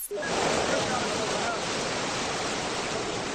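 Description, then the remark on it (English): Rushing floodwater in Pakistan roars in a steady, dense wash of sound, loud, holding constant for a few seconds with no pauses and no voices. “In Pakistan, the water continues to come fast and furious.”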